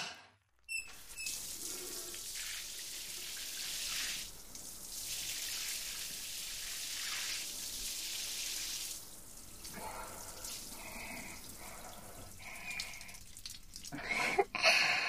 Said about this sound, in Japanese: 今、泡を洗い流すので、少し待っててくださいね。